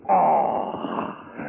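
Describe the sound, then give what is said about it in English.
A cougar howls in one long, loud, wavering cry that starts strong and slowly fades, with a rough, moaning tone and no voices around it. “Hey, hear the cougar howl tonight.”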